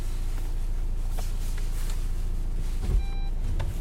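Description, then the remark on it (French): A car's unbuckled-seatbelt warning chime sounds over steady engine and road noise inside the vehicle, with faint beeps early on and one clearer electronic tone near the end. “Si vous reconnaissez le bruit du moteur, le bruit des portières, on va vous laisser le bruit de la ceinture. Non bouclé”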